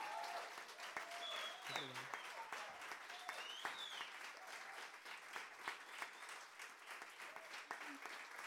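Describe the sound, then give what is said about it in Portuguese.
An audience at a live band concert claps steadily for a band member, a dense wash of many hands with scattered sharp claps, and a few shouts and whistles rising above it throughout. “Um forte aplauso, por favor.”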